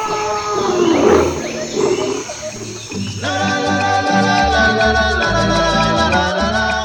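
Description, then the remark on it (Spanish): A lion roars with a deep, rumbling growl for about three seconds, fairly loud, then a bouncy musical backing with steady bass notes takes over. “En África tienen jirafas, leones.”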